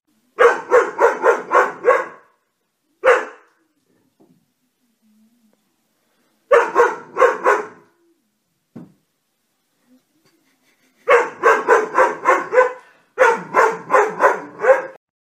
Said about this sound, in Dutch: Nou, ik heb hier ook weer een voorbeeld video van een blaffende hond. Kijk maar weer even mee.